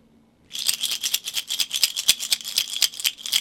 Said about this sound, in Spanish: Esto lo usamos como sonajero, sobre todo en el nivel bien inicial, en primera infancia. Bueno, a los bebés les encanta porque es muy fácil de hacer.